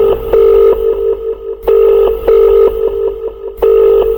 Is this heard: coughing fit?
no